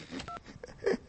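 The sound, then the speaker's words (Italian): A few short electronic keypad tones from a phone being dialed to call someone back, quick beeps in an uneven sequence, fairly quiet, with no voices. “Ora lo richiamo e rimanda il bambino, no?”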